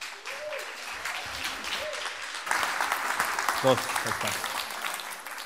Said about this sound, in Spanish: Un fuerte aplauso.